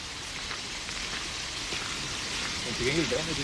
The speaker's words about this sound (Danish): Vi kan sætte os ind her, der er en bænk her, hvis man vil lige sidde lidt ned. Og springvand.